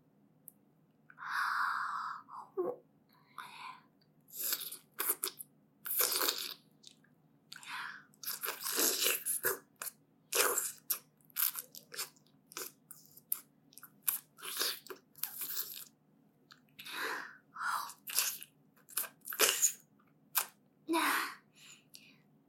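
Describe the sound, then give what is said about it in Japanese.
Wet sounds of sucking and licking a penis in sexual roleplay, starting with the pre-cum at the tip, come in irregular bursts of smacks and slurps over a steady low hum, with no talking. “早くしゃぶってほしいって顔してるね。まずは、先っぽの我慢汁から。”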